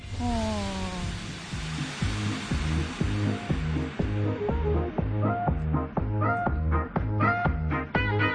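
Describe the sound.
A person imitates a cat's drawn-out meow, a falling voiced cry at the start, followed by a steady run of quick rhythmic pulses that continues to the end.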